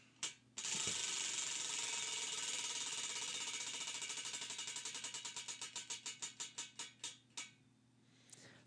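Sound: spinning prize wheel clicking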